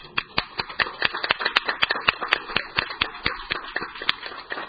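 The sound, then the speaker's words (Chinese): A group of people applauds at the first meeting of the Wong Tai Sin District Council, congratulating the members on their election, with dense, irregular hand claps forming a steady crackle that keeps a fairly even loudness for several seconds, with no voices over it. “在选举主席和副主席之前呢，我先是想借大家的掌声恭贺各位议员当选黄大仙区议员。”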